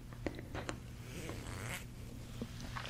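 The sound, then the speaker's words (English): Rustling and light clicking of zips being handled on the Aura crown, a crown made of zips, a few sharp ticks scattered over a soft rattle, with a low steady hum underneath and no one speaking. “And this was all made with zips.”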